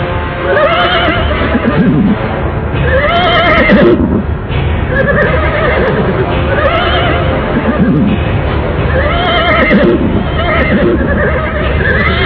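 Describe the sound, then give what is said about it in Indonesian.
Horses neigh loudly and repeatedly, one whinny after another in a steady cycle, with a constant rumble of hooves clopping underneath throughout, as riders mount their horses in a town square. “Begitu sampai di alun-alun, Pangeran Kudus memerintahkan agar semuanya naik ke atas kuda masing-masing.”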